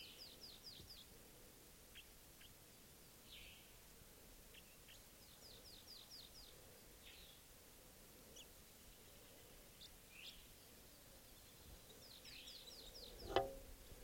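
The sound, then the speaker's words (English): A wild bird, probably a male, up in a tree sings a soft song: quiet, high, rapid chirping phrases in short bursts, repeated every few seconds over a steady hiss, with one sharp tap near the end. “He's in a soft song. It's probably a male.”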